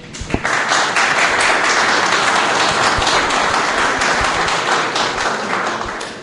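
A crowd applauds loudly and steadily at a conference, a dense wash of many hands clapping at once that holds at full strength throughout before easing slightly at the end.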